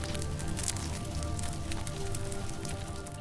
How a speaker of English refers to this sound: Feel the furnace roar beneath the hypocaust.